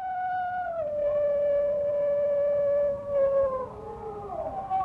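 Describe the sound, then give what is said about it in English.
A single howl from a New Guinea singing dog holds a long, sliding pitch with rich harmonics, then wavers and breaks into a warbling, yodel-like ending, clear with no voices. “According to a recent study in an English science journal, the first pooch may not have been a wolf at all, but a smaller scavenging animal that might have sounded a lot like the New Guinea singing dog.”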